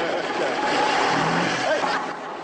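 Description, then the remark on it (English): A bus engine rumbles and revs as the driver drives the bus off, a steady, fairly loud drone with a rising whine, while indistinct voices murmur in the background. “Stan drives off and Blakey leaps on the back.”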